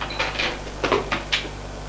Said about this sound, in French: Là, elle lui fait suivre un long couloir où se trouvent d'un côté des portes et de l'autre des grandes fenêtres qui donnent sur le jardin. Elle ouvre une porte,